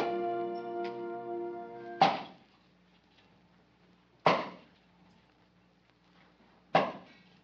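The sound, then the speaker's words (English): Wood being chopped with an axe in hot sun: three heavy, sharp axe blows land a couple of seconds apart, each with a short resonant decay. A steady tonal hum plays before the first strike. “you oughtn't to have something on your head chopping wood in this hot sun.”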